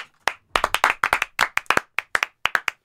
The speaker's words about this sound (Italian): Ciao, un applauso.